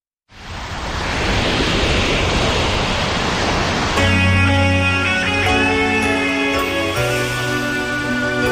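A steady, loud roar of ocean waves fills the opening seconds on its own, then sustained musical tones begin and continue over the ongoing surf.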